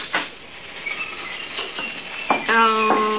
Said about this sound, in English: The whole place is full of birds. Yeah. Look at all the parakeets over here, McGee, the big cage.